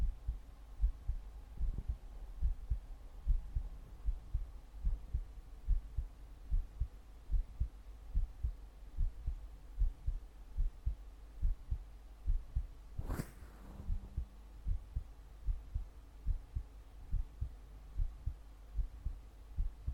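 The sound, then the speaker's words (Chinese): A steady heartbeat heard during a routine medical checkup, soft, low thumps in a regular rhythm over a faint hum, with one brief scraping rub partway through and no talking. “不要玩手机了，听听心脏。日常检查而已啊，听听心跳啊。”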